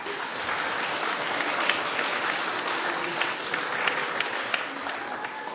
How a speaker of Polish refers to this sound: Za Waszą obecność serca Bóg zapłać i sobie nawzajem także gorącymi oklaskami podziękujcie.